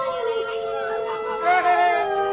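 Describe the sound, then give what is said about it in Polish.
Several wolves howl together in long, overlapping, wavering tones that rise and bend in pitch, forming a steady chorus at moderate volume with no talking. “mamy tutaj oprócz jeszcze tych takich wilków”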